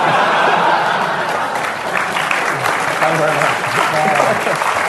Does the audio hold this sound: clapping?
yes